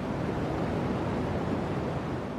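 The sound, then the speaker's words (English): A dense, unbroken wash of static hums with a deep, rumbling low end, steady and fairly loud throughout, with no pauses, rhythm or voices: cosmic background radiation data sonified, translated into sound. “But really, I think the deep throb of cosmic background radiation.”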